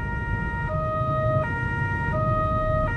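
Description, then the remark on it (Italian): Sirens of carabinieri police cars speeding past at full speed blare in a two-tone pattern, alternating high and low notes about every three-quarters of a second, over a steady low rumble of road traffic. “Le auto dei carabinieri sfrecciavano in direzione opposta alla nostra a tutta velocità.”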